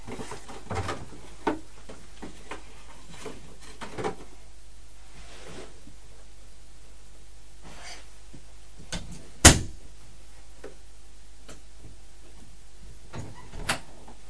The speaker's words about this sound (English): Are you shutting the door on me? Yeah. Why? You don't want me to come back in your room?